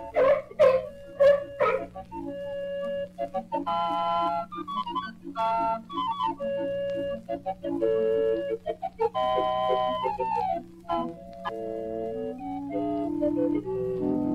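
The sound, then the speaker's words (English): A sea lion named Oscar, rehearsing in a circus main tent as he learns to balance on one fin, barks several times in a quick, loud burst of honking calls, then a run of shrill, whistle-like melodic tones carries on without further barking. “Listen to Oscar, the sea lion, as he learns to balance on one fin.”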